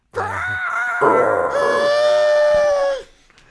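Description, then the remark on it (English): A man's voice imitates a Godzilla screech: a loud, strained, sustained wail lasting about three seconds, shifting upward partway through and holding a harsh, high-pitched tone before cutting off abruptly. “Oh, I was hoping you would just do a Godzilla screech.”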